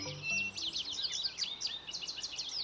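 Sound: songbirds singing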